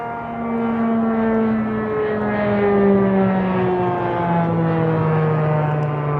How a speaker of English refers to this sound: I don't know if you've seen that plane, but it was so noisy, that's why I paused for a bit.